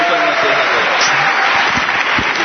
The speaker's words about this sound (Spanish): Y a todos los que habéis venido, daros un aplauso, por favor, muy fuerte.